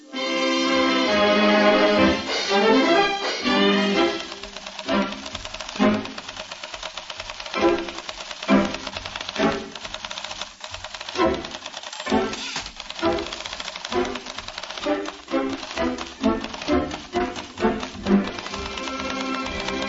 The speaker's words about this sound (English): And ladies and gentlemen, listen very carefully, because on certain of these taps, the keys of the typewriter strike 25 times a second. Incidentally, Cortez Peters is considered one of the greatest typists in the world. Listen.